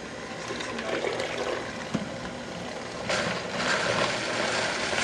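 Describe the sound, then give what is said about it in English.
A blender pulses cucumbers, diced red onions, sweet red bell peppers and fresh thyme for soup with a rough, grinding whir. A steady mechanical rattle runs throughout, then a louder, fuller burst kicks in partway through and carries on to the end. “Okay, you've got it all in the mixer now? Yeah. Yep. Just gonna pulse this just a bit, throw in some extra virgin olive oil.”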